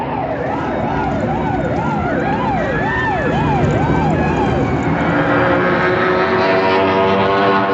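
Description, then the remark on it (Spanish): Police sirens wail in a rapid rising-and-falling pattern, several overlapping, loud and continuous over a dense rumble of engines and traffic, with no one speaking, as patrol cars race across the city searching for an armored car. “Los carropatrullas se lanzan por toda la ciudad haciendo ulular sus sirenas.”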